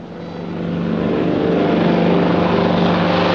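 A propeller plane bound for Lisbon drones overhead, its engine hum swelling over the first second and then holding steady and loud, with a rough, throbbing tone and no voices.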